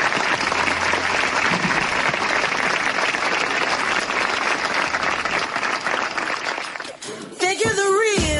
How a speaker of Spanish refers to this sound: Ahir, amb el minut de silenci, per donar suport a la vídua i a la seva filla de 11 anys, els aplaudiments dels lleidatans.